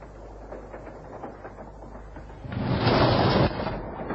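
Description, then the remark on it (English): A passenger train with compartments rumbles steadily along the rails with a low, continuous clatter, swelling into a louder, rushing roar for about a second before easing back down. “I didn't know you were on this train.”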